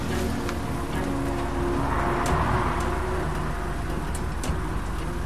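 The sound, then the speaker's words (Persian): Outdoor street ambience at a bus stop: a steady, even wash of rain-like hiss over a low traffic rumble, with occasional sharp ticks and no one speaking. “مهناز توی ایستگاه اتوبوس منتظره.”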